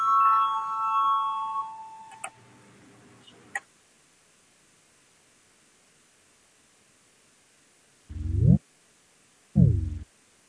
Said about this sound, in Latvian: Lūdzu zvanu, balsosim par 116. Deputāta Orlova priekšlikumu. Lūdzu balsosim.